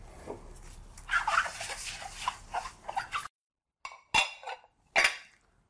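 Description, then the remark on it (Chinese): Dishes and cutlery clatter and clink steadily for about three seconds as dishes are washed, then after a brief pause come a few sharp, separate clanks of plates and pots being set down. “今晚谁洗碗？”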